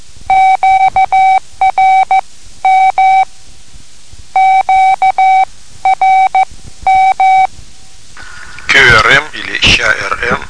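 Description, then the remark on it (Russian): Morse code beeps the letters QRM, a radio signal meaning interference from neighbouring stations, at a steady mid pitch, short and long tones grouped into three letters with brief pauses between, fairly loud and clean; a voice starts speaking at the end. “QRM или ЩАРМ.”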